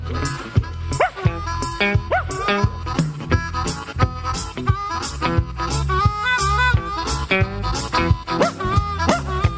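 A dog barks again and again in quick, uneven bursts, loud, over a busy, continuous musical background with no clear talking.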